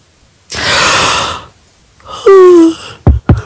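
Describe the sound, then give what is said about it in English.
A loud, drawn-out yawn: a long breathy inhale, a pause, then a voiced groan sliding downward in pitch, finished by two quick mouth clicks, with no talking. “Did you really have to, like, hype up the yawn? It wasn't even that you yawned, it was that you brought it up.”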